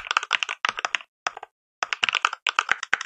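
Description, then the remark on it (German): Rapid clacky simulated mechanical keyboard key clicks, a Cherry key sound played from a keyboard app, in quick bursts of typing with short pauses between runs; crisp and fairly loud, no voices. “So klackt deine Tastatur, wenn du das installiert hast.”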